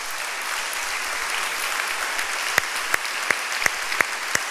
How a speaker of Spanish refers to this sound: Un aplauso al Señor.